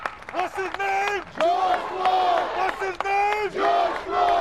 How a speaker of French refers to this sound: Avant de repartir sous les applaudissements, … fait répéter une fois de plus le nom de son frère.